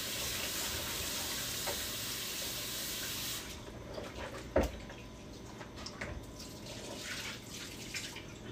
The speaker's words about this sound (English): Bring y'all back to my stove because I'm sitting here frying.